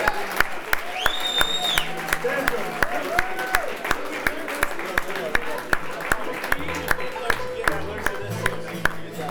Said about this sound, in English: Thank you, everybody, for coming. Give a nice round of applause for the Head House Ballers.